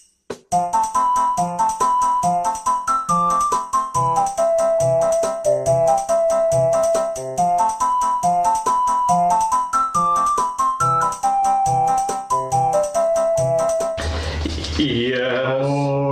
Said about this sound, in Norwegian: Ja, fra spillet Ocarina of Time, Zelda.